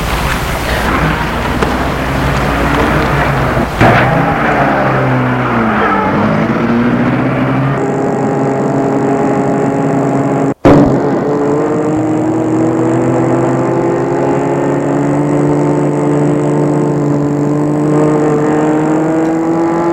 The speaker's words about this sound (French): Il entre dans la voiture et le chauffeur la met en route.